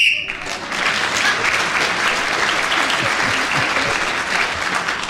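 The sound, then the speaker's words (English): A brief, shrill whistle blast at the very start, ending a speaking turn on a panel game while Nicholas Parsons is speaking, immediately swallowed by loud, steady applause that continues for several seconds without letting up. “Nicholas Parsons gets a point for speaking when the whistle went, and, I don't believe it.”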